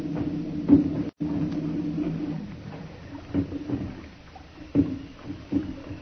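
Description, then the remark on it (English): A rowboat is hauled alongside with a boat hook: a few hollow wooden knocks and bumps land irregularly over a steady low rumble of water and creaking hull, with no voices. “Get ready to come aboard. And be mighty careful. Ready with that boat hook, Bosun?”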